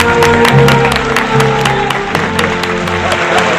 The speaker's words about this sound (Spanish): Quedáis nombrados caballeros de la Real Orden de Nostrapacus. Sois igual de contragafes que yo. Enhorabuena. Un aplauso para ellos, ¿eh?